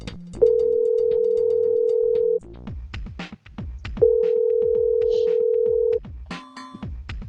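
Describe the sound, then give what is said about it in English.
A phone line rings twice on an outgoing call to the Lakeview Inn and Suites in Brennan: two long, steady mid-pitched tones of about two seconds each, separated by a pause, with faint background noise and no talking. “Thank you for calling the Lakeview Inn and Suites in Brennan.”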